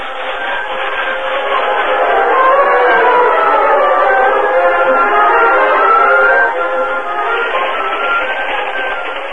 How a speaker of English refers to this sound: A few minutes later, Cliff and Gopher stood beside the moonlit tracks, watching the train disappear in the distance.